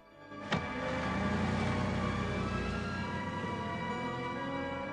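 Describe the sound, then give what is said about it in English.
A limousine engine hums steadily after a sharp click near the start, a low rumble with a faint whine that eases off slightly as the limo drives away. No one speaks. “As the limo drives away, Pep rides up on his motorbike.”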